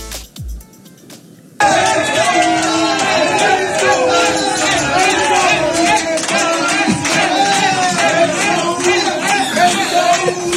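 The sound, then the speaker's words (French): After a brief quiet moment, a packed bar-restaurant called Nulle Part Ailleurs erupts into loud, sustained cheering, shouting and applause as Marseille fans cheer Dortmund's first goal against Paris Saint-Germain, a dense roar of many voices that holds steady for about nine seconds. “Les Marseillais, quand les Allemands marquent, ils sont vent debout.”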